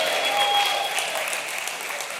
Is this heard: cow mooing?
no